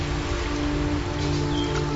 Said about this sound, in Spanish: Contemplamos una corriente de agua cayendo desde unas rocas, la cascada. Gran parte de esta lluvia se derrama en cascadas desde las alturas.